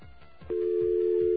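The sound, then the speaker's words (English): A steady, low-pitched telephone dial tone comes in loudly about a third of the way through and holds unbroken to the end, after a few soft low thumps. “That dial tone sounds a little low in pitch, doesn't it?”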